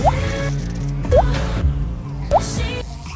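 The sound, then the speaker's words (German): Three liquid drops plink in one after another at a slow, even pace, each a short rising bloop, over a steady humming background. “Geben Sie mir ein paar Tropfen”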